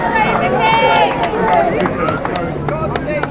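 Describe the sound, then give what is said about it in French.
A dense crowd in front of the gates of the royal palace shouts and cheers "God save the King" together as the King greets them, many voices overlapping loudly and steadily, with sharp clicking snaps scattered through the din. “C'est un moment assez émouvant parce qu'on entend pour la première fois « God save the King ». Ça faisait 70 ans que cette phrase n'avait pas été prononcée par le peuple.”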